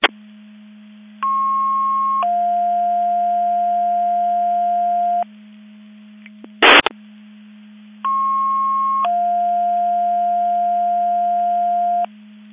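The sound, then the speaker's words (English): Radio alerting tones for a Division 2 Mutual Aid Box Alarm alerting receiver test: a two-step electronic tone sequence, a short higher tone sliding into a long lower one, played twice over a steady hum, with a brief burst of static between. “This is Quantum Mavis Division 2 testing the Division 2 Mutual Aid Box Alarm Alerting Receivers.”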